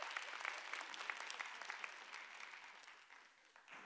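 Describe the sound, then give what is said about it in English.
A church audience claps steadily during a sermon, a dense patter of many hands that holds for a few seconds and then gradually thins and softens toward the end. “If you would all clap right there, give me a perfect place to take a sip of water.”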